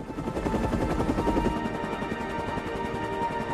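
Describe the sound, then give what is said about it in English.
A helicopter's rotor thuds in a steady, rapid chop, loud overhead, with a constant engine roar and no voices; the helicopter, shining a spotlight over a beach, wheels upwards. “The helicopter wheels upwards.”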